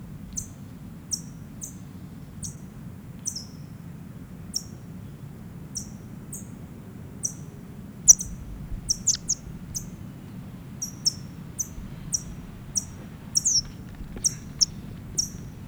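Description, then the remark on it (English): A small bird, held alone in a bag during bird banding, gives a steady series of sharp, high-pitched chip calls, roughly one every half second or so, growing a bit quicker and clustered later, over a low continuous rumble with no talking. “Back in the bag now, alone, chipping.”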